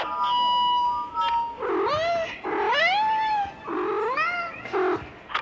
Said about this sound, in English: But apparently it's Corncob the Calico is the warden. Aww. The cat wizard? The cat wizard. The cat wizard? Adorable. That's why when you hear something out of that speaker and it sounds like a cat meowing, it is a cat meowing.